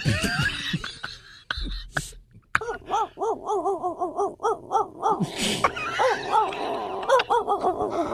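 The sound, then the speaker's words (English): A man's voice imitates a German Shepherd as his talent entry in a radio call-in Madhouse pageant, letting out a rapid series of rhythmic whining yelps and barks with huffs and gasping breaths, loud and without any talking. “And what will your talent be for the Madhouse pageant today? The sounds of a German Shepherd.”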